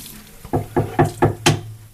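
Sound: tap water running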